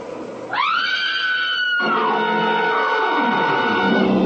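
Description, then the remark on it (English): A woman inside a barn lets out a long, loud, high-pitched scream that holds steady for over a second, then wavers and slides downward, lasting several seconds with no talking. “Now, look, get over there inside the barn and scream. Long and loud, huh?”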